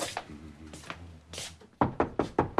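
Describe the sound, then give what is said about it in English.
In a hallway, a man knocks five quick, firm knocks on a closed wooden bedroom door in a steady rhythm, fairly loud, after a few softer, muffled movement sounds. “He knocks on a closed door.”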